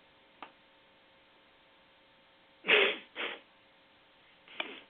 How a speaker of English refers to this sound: Nothing like sneezing on a radio.